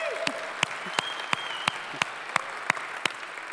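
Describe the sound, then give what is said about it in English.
A church audience applauding to welcome the Nagpur, India campus and the Wyoming campus: sharp claps land in a steady, even rhythm, about three per second, over a continuous wash of crowd noise, with a faint whistle-like tone drifting through. “Would you just welcome them in by way of applause?”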